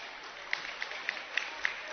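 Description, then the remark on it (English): Six evenly spaced claps ring out in a steady rhythm, sharp but not loud, over a constant wash of crowd noise and murmur at a basketball game involving Manasquan; the clapping is for Claire Stefanelli, who rejoins her team on crutches with a big bag of ice. “You see and probably hear, not see, hear some clapping in the background.”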